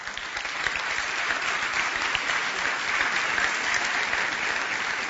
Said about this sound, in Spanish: Un aplauso, no aplaudan más, porque esto es como carnaval.